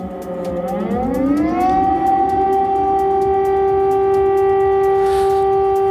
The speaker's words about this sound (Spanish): Las alarmas antiaéreas han vuelto a sonar en Kiev.